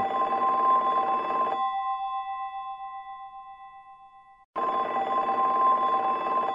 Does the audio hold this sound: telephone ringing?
yes